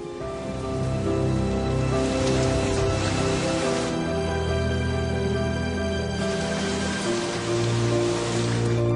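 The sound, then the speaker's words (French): A heavy summer monsoon downpour in a region near the Indian Ocean hisses steadily and densely throughout, a constant wash of falling rain with no voices and no pauses. “La pluie profite à la végétation.”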